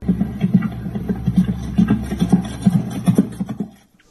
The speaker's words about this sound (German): Das Pferd galoppiert im Endeffekt geradeaus, also es ist gar keine Lektion, die es macht.